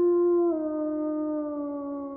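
A single long wolf howl, loud, holding a steady, clear tone that dips slightly in pitch partway through and then sustains to the end, with no talking.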